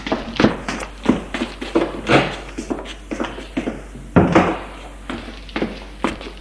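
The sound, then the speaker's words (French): Hurried footsteps of a man running into the bathroom thump across a floor, an uneven run of fairly loud knocks and taps with no voices, a few heavier thuds standing out among the lighter steps. “Il se déshabille en vitesse avec le peu de force qui lui reste, en jetant les vêtements à terre et court dans la salle de bain.”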